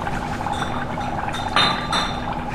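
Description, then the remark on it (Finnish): Beer, a stronger pilsner, bubbles and fizzes as it is poured, a steady frothy hiss with two brief louder gushes near the end, over a faint low hum. “Tämä tulee kiva pulputus täältä.”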